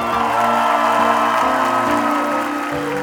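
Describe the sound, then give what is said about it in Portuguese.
An audience claps steadily for about three seconds, applauding one of the composers of the song being performed, a dense, even patter of applause running over sustained music with a shifting bass line underneath. “Antes de continuar, você vai aplaudir aqui na minha direita,”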